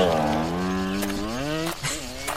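A motorcycle that was ridden from Madrid drones steadily, its pitch sliding gradually lower as it pulls away, fairly loud at first, with a brief dip in the sound near the end.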